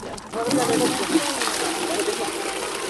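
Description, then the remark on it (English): Steady splashing and spattering of water pouring from a water truck at Chota Lahore refugee camp, south of Swat Valley, Pakistan, as newly displaced people rush it, continuous for several seconds, with a busy murmur of voices mixed underneath. “Here in Chota Lahore, a camp south of Swat Valley, the newly displaced rush the water truck. Potable water arrives twice a day, barely enough for the 5,000 residents here.”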